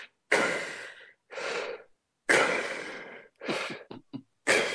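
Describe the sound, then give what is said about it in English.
A voice imitates heavy breathing mixed with snoring: several loud, raspy inhales and exhales, with a few short snorting catches near the end, and no words spoken. “You know, we lay in bed, in our moth bed at night, and I just listen to her, and she does that stupid half breathing, half snoring.”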